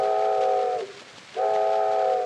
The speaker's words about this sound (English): There's that whistle once again.